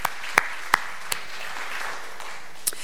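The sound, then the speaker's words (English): Applause from a church audience marking Applebee's upcoming 195th anniversary: a soft, steady patter of many hands, with a few sharper individual claps standing out near the start and again near the end. Nobody speaks. “To mark, yeah, round of applause, absolutely.”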